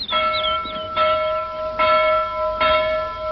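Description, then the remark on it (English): A town hall bell rings out in four steady, evenly spaced strikes, each clang blooming into a long humming resonance that overlaps the next. No one speaks. “Who pulls the town hall bell rope at blind, Captain Cat?”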